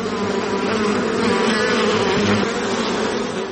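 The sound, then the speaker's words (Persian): A dense, steady drone of many honeybees buzzing together at a bee farm on the outskirts of Herat, Afghanistan, loud and filling the whole moment without pause, with no voices. “در حاشیه شهر هرات سه فارم زنبور عسل دارد که به تنهایی آنها را مدیریت می کند.”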